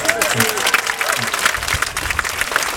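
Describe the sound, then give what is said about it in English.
An audience applauds steadily, many hands clapping in a dense, continuous patter, with a few voices murmuring faintly underneath, for the first-prize winner of a lemon curd preserves competition. “she's got first prize. But I know, worth a round of applause in itself.”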